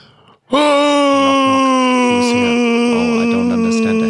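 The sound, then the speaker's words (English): A voice imitates the scream of a man falling, for a Helsinki knock-knock joke: one loud, sustained, strained wail held for over three seconds after a brief quiet breath, its pitch sagging slowly downward. “Well, if you are providing the screams, I will tell the joke, yes. Okay. He does a scream kind of like...”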